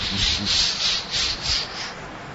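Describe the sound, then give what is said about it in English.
A voice imitates a train chugging with rhythmic, breathy "chh" bursts, about six steady hissing pulses in a row, fairly loud and with no other talking. “Then they developed trains. Incredible technology. Trains. They just go...”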